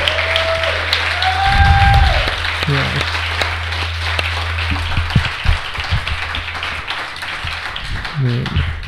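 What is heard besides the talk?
audience applause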